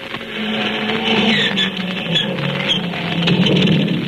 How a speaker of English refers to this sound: There we are, both engines started.